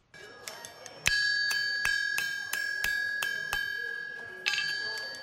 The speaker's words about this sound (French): Les coups de marteau résonnent sur le fer encore chaud que bat le forgeron. Dans cet atelier, on fabrique des chaises, des tables ou encore des lits. Bienvenue au village artisanal Wadata de Niamey, qui regroupe une centaine de professionnels.